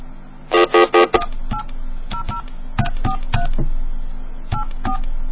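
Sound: telephone touch-tone dialing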